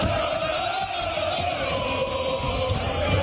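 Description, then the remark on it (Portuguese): Athletic Bilbao fans at San Mamés stadium welcome their team before a Copa del Rey home match against Barcelona, roaring and cheering in a loud, continuous wash of voices, with a sustained chant-like tone running through the steady din. “E antes da partida, a torcida recepcionou o Bilbao dessa forma.”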